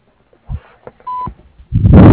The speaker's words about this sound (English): Hi, you have reached Carasso Plumbing and Excavating. After the beep, thank you.